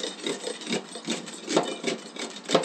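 Repeated rough scraping strokes rasp along sugarcane stalks in a steady rhythm, about six passes with a few sharper, louder ones, and no voices.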